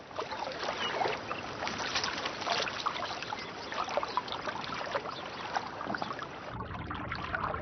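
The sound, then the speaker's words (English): Water runs and trickles steadily through a beaver dam at a pond in autumn, with small splashes and gurgles throughout, moderately loud, easing off slightly near the end. No one speaks. “The sound of running water is their stimulus to shore up gaps with timber and plug leaks with mud.”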